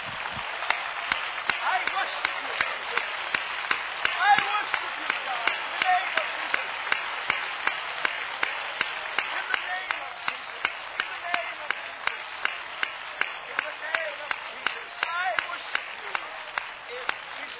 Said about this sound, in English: Would you give the Lord one great round of applause, because he is worthy tonight. With all of your heart, clap for the Lord.